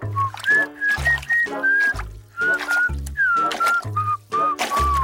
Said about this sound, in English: Now turn around 3 times and whistle Twinkle, Twinkle, Little Star.